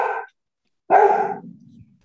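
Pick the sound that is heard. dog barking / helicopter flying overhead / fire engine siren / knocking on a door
dog barking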